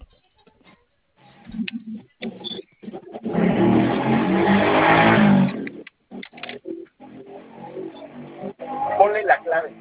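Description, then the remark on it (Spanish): A car engine surges and accelerates loudly for a few seconds in traffic, with people talking intermittently before and after it. “Déjame acomodo porque me quedé aquí en medio del tráfico.”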